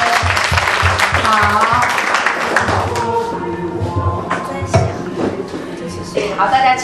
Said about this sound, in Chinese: 好，我们给良人一个爱的掌声。